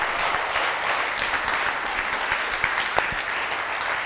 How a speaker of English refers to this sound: Oh, come on, put your hands together. Come on, clap. Let the whole church clap.